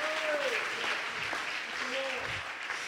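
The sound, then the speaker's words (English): An audience at a church service on Independence Day weekend claps steadily, a dense, continuous patter of many hands at fairly even loudness, with a few voices calling out or singing briefly over the applause. “Oh, would you clap your hands?”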